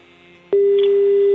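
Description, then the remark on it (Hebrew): A quiet telephone line hiss, then a click and a loud, steady low-pitched phone tone that holds without a break until the end, as a phone call is dialed during a live broadcast. “בואו ננסה לחייג.”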